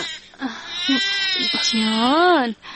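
An infant wails in several rising and falling cries, the last one long and arching, with short breathy pauses between them.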